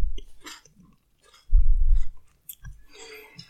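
Loud, wet open-mouth chewing, with smacking bites and crunchy bursts in an irregular rhythm, including one heavy low thump in the middle.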